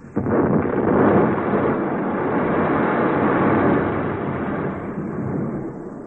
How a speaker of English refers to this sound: The explosion came one day around noon while Johnny was at his cabin having a bite to eat. And it took place at the mine.